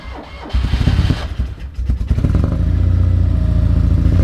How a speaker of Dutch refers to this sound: het echte geluid waar het allemaal om draait, dat komt natuurlijk uit de motor.